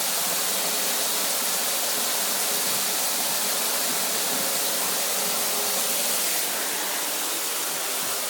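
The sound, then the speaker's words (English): A shower attachment sprays water into a bath, making lots of bubbles, in a steady, loud, hissing rush that holds constant throughout, with no voices or other sounds. “It's nice to use the shower attachment because it makes lots of lovely bubbles in the bath.”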